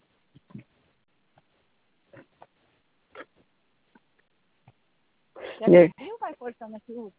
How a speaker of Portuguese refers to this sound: Escutando a gente fungando. Vai pensar que estou falando, fazendo outra coisa.